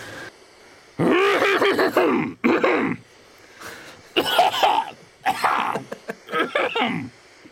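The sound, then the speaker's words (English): A person coughs repeatedly in a series of harsh, throaty fits, some with a voiced, groaning edge, fairly loud, separated by short pauses and with no talking. “This is cough number one.”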